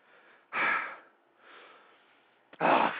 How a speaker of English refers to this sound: I'm sweating, for Christ's sake. I got the damn air conditioner on full blast out here. I'm sweating. I'm breathing hard.